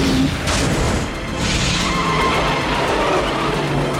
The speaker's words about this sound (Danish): Chef Remser skurrer rundt og smadrer ind i betonblokken.